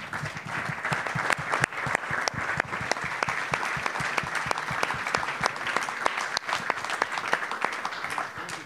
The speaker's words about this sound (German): Das ist doch wie auf Stichwort, dann holen wir Oke Göttlich doch jetzt einfach mal dazu und fragen. Applaus für Oke Göttlich.